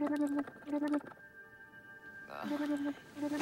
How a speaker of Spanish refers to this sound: Un caracol suena.